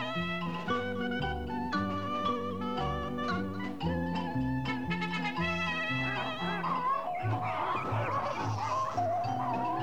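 A noisy flock of farmyard geese and other poultry honks and cackles continuously, many overlapping calls, loud and busy for the whole stretch with no voices.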